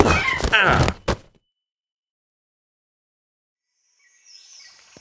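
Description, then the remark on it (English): A loud thump with a short crash right after it as someone is knocked out with a parrot, then a long silence before a high, thin parrot squawk rises briefly at the end. “Okay, I'm going to grab your parrot. I'm gonna knock you out with it.”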